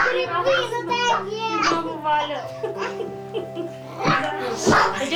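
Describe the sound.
Several young children of a large family play and chatter noisily at home, their high voices overlapping with bursts of laughter and squeals, a lively, continuous din throughout.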